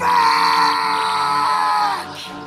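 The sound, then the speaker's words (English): A loud, piercing screech held for about two seconds, shrill and strained, then cutting off abruptly; a human voice imitating the agonized shriek of a vampire as a glowing sword is thrust into its chest. “So excited is he as he grabs his sword glowing with powerful Vorpal magics and he thrusts it into the chest of the vampire, whose eyes immediately open and gives the most painful screech that you've ever heard.”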